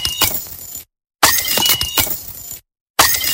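A champagne glass shatters in three separate bursts, each a loud, bright crash with tinkling, scattering shards, split by short silences. No one speaks.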